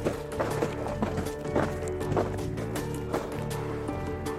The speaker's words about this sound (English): it's not long into his night in the forest before he hears footsteps outside his tent. Something is right out there. Something's walking around. The sound of footsteps in the snow is terrifyingly clear. Something's out there in the trees.